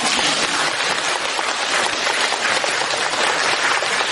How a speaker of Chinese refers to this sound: 台长特别开心，你看看呢，人不多，但是我听这个掌声就是几千人的掌声。